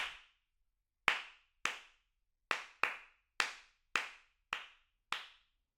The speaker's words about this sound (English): I shall count the pulse and then clap a rhythm. You clap it back immediately after you hear it.